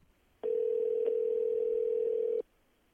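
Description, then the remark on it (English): One steady, humming phone ringback tone sounds for about two seconds and then stops, a single mid-pitched electronic burst over a quiet line with no talking. “It is ringing.”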